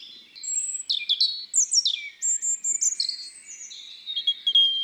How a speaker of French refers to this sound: Il y en a un autre plus loin. C'est peut-être son copain. Ça m'étonnerait. Les rouges-gorges ont mauvais caractère. Ah bon? Et ils aiment bien être tout seuls chez eux.